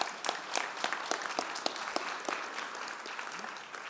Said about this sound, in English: And, I hope you've got enough round of applause ready, and all the wonderful people that serve us tea and coffee as well after the service and look after us there as well.